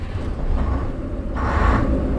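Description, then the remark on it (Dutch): A low electrical buzz from an old bus's ignition contact, then the bus's diesel engine cranks and catches into a loud, steady rumble as the bus is started to depart. No talking. “Dan hoort u allereerst het zoomen van het contact en daarna het starten van de motor.”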